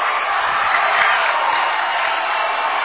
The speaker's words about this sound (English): She's got a chance to get it off before the buzzer, and does. I'm going to wait till the Lady Tiger crowd quiets down for a second.